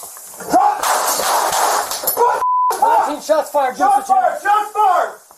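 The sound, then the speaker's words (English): Several sharp pistol shots crack out in quick succession amid loud, chaotic noise, followed by a brief electronic beep and then people shouting urgently. “After those gunshots,”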